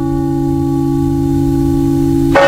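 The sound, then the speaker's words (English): A church bell rings the Angelus, its deep, resonant tone hanging in the air and slowly fading, then another loud strike rings out near the end. No voices are heard. “And then nine bells. And that's the sequence of the bells for the Angelus.”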